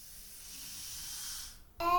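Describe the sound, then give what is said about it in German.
A balloon, squeezed in a hug, hisses steadily as air slowly escapes, a soft airy stream lasting about a second and a half before it thins out, followed abruptly by a louder, squeaky tonal sound. “Es zischt. Der Luftballon verliert langsam Luft.”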